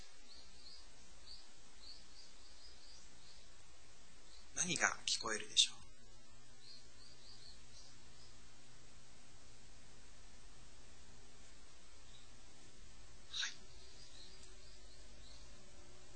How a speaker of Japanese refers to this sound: 風の音によって、風によって木の葉っぱが揺れる音、そして鳥のさえずり。